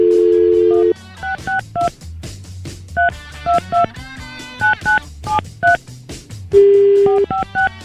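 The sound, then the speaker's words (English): A steady dial tone gives way to a quick run of telephone keypad tones as a phone call is dialed, short beeps pressed in bursts, loud, with another brief dial tone before more dialing. “First, we got to make a very important phone call.”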